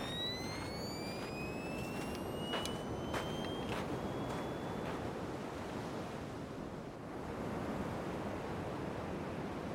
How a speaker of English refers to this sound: I'm gonna see what I can find with this metal detector.